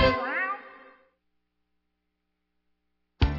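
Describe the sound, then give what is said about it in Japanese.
A single drawn-out kitten meow, clear, rising then trailing off over about a second, followed by a pause of silence before another sound abruptly begins. “子犬、子猫、子犬、子猫。”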